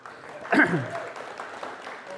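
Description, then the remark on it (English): A crowd breaks into steady clapping, a dense patter of many hands at moderate loudness, with a brief voiced cheer rising over it near the start before the applause carries on evenly. “You can clap her.”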